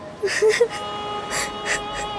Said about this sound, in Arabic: كفى بكاء، وإلا سأبكي معكما.